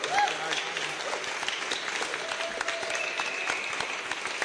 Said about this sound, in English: Let's have a round of applause for our brewers.